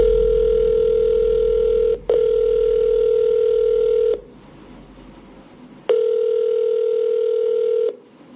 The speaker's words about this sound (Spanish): Pues así se quedó, llamando el teléfono, no nos han regresado la llamada.